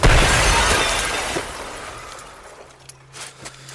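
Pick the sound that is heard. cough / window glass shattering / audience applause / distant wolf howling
window glass shattering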